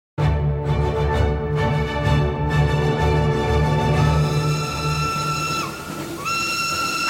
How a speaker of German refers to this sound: Was soll denn jetzt der Zug hier im Ton, im Bild? Also, verstehe ich nicht. Na, es war ein Zug, der das Zeitalter des Kinofilms eingeläutet hat.